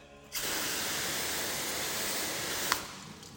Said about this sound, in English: If you don't know, this is a ceramic spray. It's also hydrophobic, which means water runs away when it sees it. So I'm just gonna spray it on here. Alright. I'm gonna spray it.